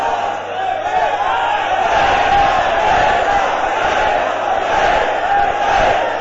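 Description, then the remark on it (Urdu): A large crowd chants the Labbaik religious slogan together, a loud, dense and sustained roar of many voices that keeps a steady intensity from start to finish. “تینو پتہ ہی نہیں لبیک دے نعرے وچ پاور کتنی ہے.”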